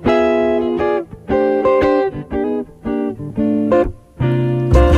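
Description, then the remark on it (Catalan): A bouncy, catchy jazz tune plays with bright, strongly harmonic melody notes in short rhythmic phrases over a steady low accompaniment, loud, with no voices. “És un tema fantàstic. Es diu … i suena així, així de divertit.”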